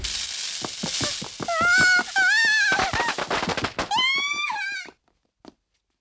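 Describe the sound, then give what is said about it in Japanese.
A spinning ground firecracker (nezumi hanabi) crackles rapidly with dense pops, overlaid by a shrill whistling shriek that rises and wavers in pitch, loud, ending abruptly with one faint final pop. “おいおいおい、なんだこれ。ネズミ花火か。”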